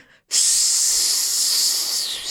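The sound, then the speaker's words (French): A voice imitates the hiss of a snake standing raised: one sustained, loud, airy "sss" starting after a brief pause and held steadily for about two seconds. “Vous faites le son du serpent quand il est dressé.”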